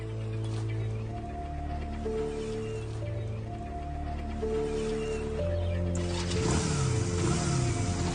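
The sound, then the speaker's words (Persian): A motorcycle engine, as someone takes another person's motorcycle, roars to life near the end and revs loudly, its pitch rising and falling, following several seconds of sustained tonal music with no talking. “چی کار میکنی؟ موتورمو کجا میبری؟”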